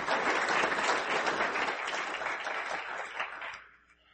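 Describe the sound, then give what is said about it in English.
A church audience applauds warmly one morning to welcome a pastor, a dense, steady patter of many hands that holds for about three seconds before tapering off into quiet. “So I'd like you just to give him a warm Cornerstone welcome this morning,”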